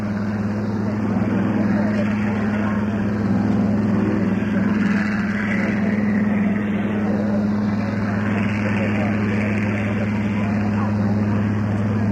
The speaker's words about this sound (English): From HMS Heron, the Royal Naval Historic Flight, the Fairy Swordfish, leading the Fairy Firefly, and the Hawker Sea Fury.